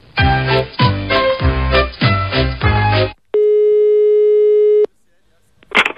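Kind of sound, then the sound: signal or alarm, telephone ringing tone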